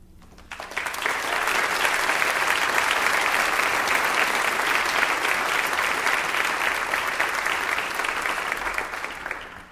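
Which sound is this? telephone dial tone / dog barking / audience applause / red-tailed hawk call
audience applause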